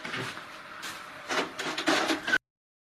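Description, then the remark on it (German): A window that had been left open to air out is closed: a couple of seconds of rough sliding and scraping with a few knocks, getting louder toward the end before stopping abruptly. No one speaks. “So, bei mir ist das Fenster da hinten offen, damit ich ein bisschen lüften kann.”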